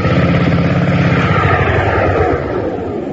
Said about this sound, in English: Oh, sweet sound, eh? What say? Sounds good, huh? 1 1/2 horsepower. Well, go ahead, start mowing.